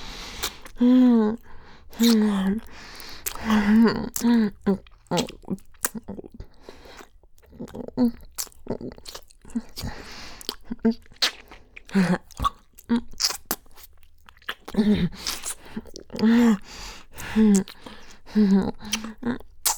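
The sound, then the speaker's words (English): Wet gum chewing with rapid smacking clicks and crunchy bites repeating throughout, broken up by gulps and short voiced hums and murmurs from the chewer. “You know how much I love gulping down your gum.”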